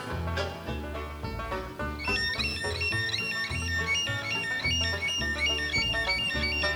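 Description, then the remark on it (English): Someone imitates robin birdsong, whistling quick, bright chirps and warbles that start partway through and continue over steady, fairly loud band music. “Here's a robin.”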